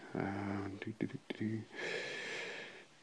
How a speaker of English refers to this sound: Yeah, I'm breathing deeply. That's not a good sound, really.